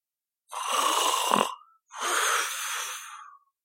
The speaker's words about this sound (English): snoring began once more, as he drifted back into his drunken stupor.